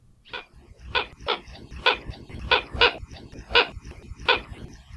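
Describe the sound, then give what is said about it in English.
Hawaiian coot (ale keokeo), an endangered water bird endemic to Hawaii, calls: about nine short, harsh, bark-like notes repeated in a fairly steady, slightly uneven rhythm over a low rumbling background, with no voices. “But we've got its call for you today, courtesy of the Macaulay Library at Cornell Laboratory of Ornithology.”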